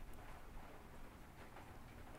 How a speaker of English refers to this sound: Just listen, that rain just come down. Can you hear that?